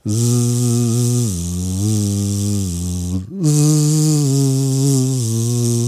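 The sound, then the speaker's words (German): A person does a voice warm-up exercise, humming through a buzzing lip or straw trill, the voice holding steady pitches and jumping up and down between notes, loud and continuous with one brief break midway. “Du könntest dir zum Beispiel vorstellen, dass du auf einer Halfpipe bist mit diesem Geräusch. Und oder ein Oktav oder ein Tonsprung machst oder ein Lied so summst.”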